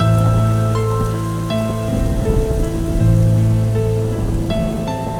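Steady rain patters down throughout, a dense, even hiss of drops mixed with sustained musical chords that shift every second or so, with no voices present.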